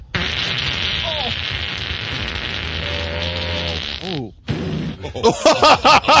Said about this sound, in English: I think, as strange as this is to say, I think he's a little tired of farting. He gets paid for farting. Down, and we hear what is commonly known as a fart.